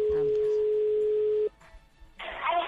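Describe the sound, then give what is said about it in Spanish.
A steady telephone dial tone hums for about a second and a half, cuts off abruptly, and after a short quiet gap a burst of harsher line noise follows as a number is dialed to call a widowed man in Madrid. “al que vamos a llamar inmediatamente para ti. Vamos a hablar con Juan, a ver si está al teléfono”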